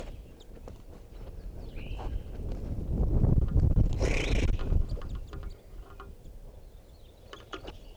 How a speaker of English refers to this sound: I'm right underneath the tree that a bunch of crossbills are in, and they're coming down for water.